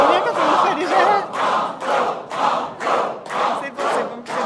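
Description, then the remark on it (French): The audience of the game show Le jeu des 1000 euros chants "banco" together, a steady run of loud, rhythmic group shouts at about two per second, with no other voice over them. “On va demander au public, que faut-il crier à ce stade du jeu?”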